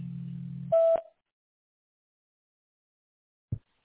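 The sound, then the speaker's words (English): A low electronic hum gives way to a single short, steady mid-pitched beep from the Atlanta Kitchen Makeovers answering machine, followed by silence and a soft click. “Please leave your message after the beep and I'll get back with you as soon as I can.”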